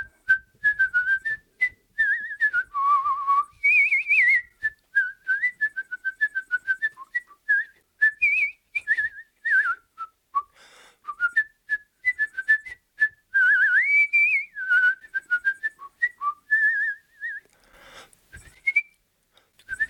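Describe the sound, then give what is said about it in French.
A solo whistled opera melody, clear, moving in quick bouncing phrases with short pauses, a lively tune carried by one whistler with no talking: the air of Papageno, the bird-catcher character of the opera. “Alors le personnage de Papageno, faut savoir que sur son lit de mort, il sifflotait l'air du Papagénor, enfin du Papageno, de cet oiseleur en fait, que je vais avoir le plaisir d'incarner.”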